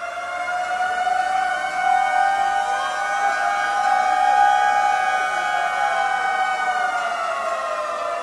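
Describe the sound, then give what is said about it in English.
Several memorial sirens wail together early in the morning in San Francisco, California, marking the moment the great earthquake struck on its 100th anniversary. They form a sustained, steady drone, their tones slowly rising and falling and overlapping. Fairly loud and unbroken throughout, with no voices present. “Early this morning, these sirens memorialized the moment when the earthquake struck.”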